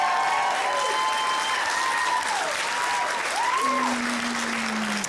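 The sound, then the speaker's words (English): An audience applauds steadily, a dense wash of clapping that holds at an even, fairly loud level for the whole stretch, with a few whoops and cheers rising and falling over it. “The applause makes it seem like you're thrilled that I'm finally off the market.”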